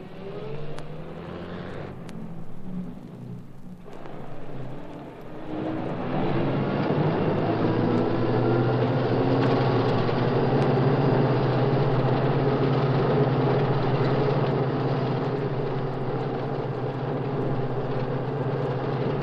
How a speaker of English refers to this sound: You hear a truck in the distance.